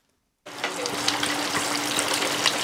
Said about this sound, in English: Hot oil bubbles up as a whole red fish is carefully lowered into a deep fryer. The heady scents of lemongrass, chili, and garlic fill the crowded kitchen of this Thai restaurant.